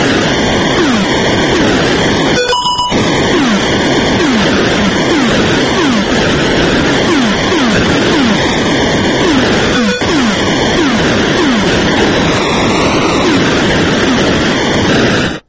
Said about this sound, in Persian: بله، ترکید اینجا، هواپیمای ریور رایت آتاری ترکید.